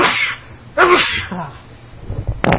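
A loud sneeze bursts out with a sharp breathy explosion, followed by shorter snorting and breathy noises and another abrupt burst near the end, in a recording that also includes someone farting.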